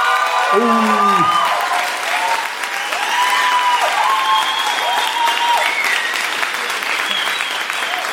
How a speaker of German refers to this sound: Ihr seid jetzt gefragt, jetzt noch, gebt noch mal alles, Kreuzberg. Nur noch zweimal. Euer Applaus für die Industriearchitektur.